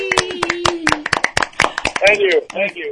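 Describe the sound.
A brief round of applause from a small group, sharp irregular claps for about two seconds, with a sustained voiced tone early on and excited cheering voices rising toward the end.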